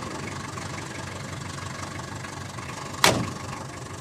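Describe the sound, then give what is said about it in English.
Steady, even rumble of a car engine heard from inside a taxi on a short ride across London, with one sharp thump cutting through briefly near the end before the hum carries on. “So I managed to catch up with the composer, no mean task for someone who never stops working, on a short taxi ride across London.”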